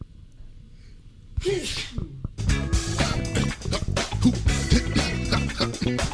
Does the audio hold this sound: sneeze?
yes